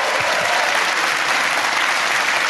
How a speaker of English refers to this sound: Ladies and gentlemen, give a massive round of applause, Olga Koch.